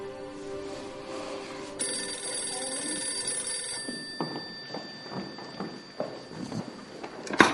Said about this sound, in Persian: تلفن با شما کار دارم. خواهرتونم پشت خط.